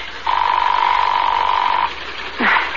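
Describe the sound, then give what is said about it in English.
A single long, steady ringback tone over a muffled phone line as a call is placed from New York to a home, lasting about a second and a half, followed by a short pause and a brief click-like sound. “It's ringing.”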